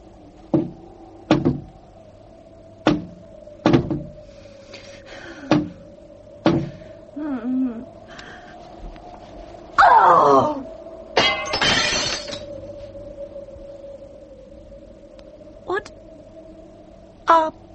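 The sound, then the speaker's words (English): Something knocks against a window at night, in moonlight, in a string of sharp, irregular raps, some glassy and rattling, over a steady low hum, with a louder scraping clatter midway. “It was knocking against the window.”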